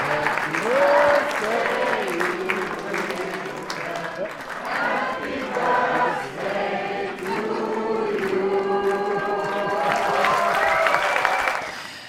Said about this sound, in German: Ja, das kann man wirklich nicht anders sagen. Mit Szenenapplaus, mit goldenen Konfettikanonen, Standing Ovations und auch mit einem kleinen spontanen Geburtstagsständchen aus dem Publikum.